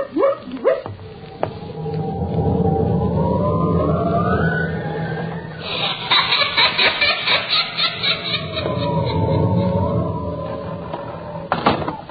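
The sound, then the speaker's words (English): A door in a haunted house creaks open in long, groaning, wavering tones that rise and fall, with a rattling stretch midway and another slow creak before a sharp slam near the end. No one speaks. “That door again. Insidious feeling, doors opening and slamming.”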